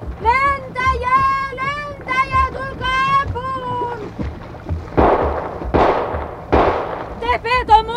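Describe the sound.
Frantic shouting voices give way to three loud gunshots fired in quick succession at a man in the water, each a sharp blast with a brief rumbling tail, before the shouting resumes.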